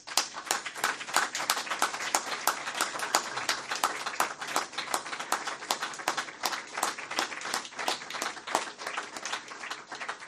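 An audience stands and applauds in honour of elders, a steady wash of many overlapping hand claps that holds at an even, fairly loud level for about ten seconds, with no voices over it.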